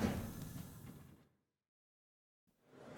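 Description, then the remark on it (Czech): Metro train doors slide shut with a broad, airy whoosh as boarding ends, fading to a second of silence, then a rushing mechanical noise starts again; the next station is Muzeum, with transfer to line A. No one speaks. “Ukončete výstup a nástup, dveře se zavírají.”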